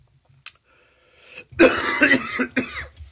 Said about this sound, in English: Having a cough here on True Speech. We have a cough here on True Speech. But we got to continue.